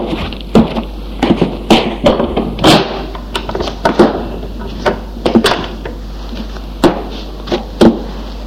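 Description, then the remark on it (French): A bedroom door off a small corridor being opened, with a run of sharp wooden knocks and latch clicks rattling irregularly over a low, steady hum. There is no talking. “Barbara peut ouvrir une porte.”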